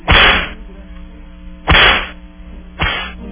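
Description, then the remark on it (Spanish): Three sharp whip lashes crack out one after another, each a loud, bright snap with a brief ringing tail, spaced unevenly with short pauses between them. “Démosle los latigazos entonces. Tres.”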